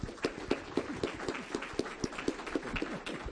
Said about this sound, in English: And I think we would all agree with that. And let's give your pastor a round of applause.